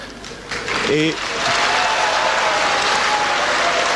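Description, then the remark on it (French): An evening audience erupts into loud, steady applause mixed with shouts and whistles aimed at the speaker, one voice yelling briefly near the start before the noise swells and holds as a dense, continuous roar. “Je suis surtout content ce soir pour tous les cris et les sifflets que vous m'adressez.”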